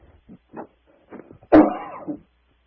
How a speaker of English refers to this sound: Oh, I beg your pardon. I was sickly in the throat and had to have a cough. Excuse me while I just have a glass of water.